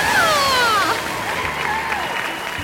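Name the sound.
audience clapping and cheering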